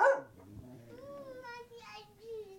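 A dog, Coco, gives one short, sharp bark and then breaks into a long, wavering, high-pitched whimper that rises and falls for a couple of seconds, moderately loud.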